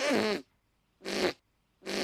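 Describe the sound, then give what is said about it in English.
Three loud, wet, buzzy fart-like blasts made by squeezing a hand against an armpit, each about a third of a second long, spaced evenly with brief silences between. “Hey, did I tell you I can make fart noises using just my hand and armpit?”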